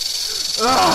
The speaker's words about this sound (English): Holy cats! Snakes? Hell, there might be like a dozen big old diamondback rattlers in there, just waiting for me to stick my hand in.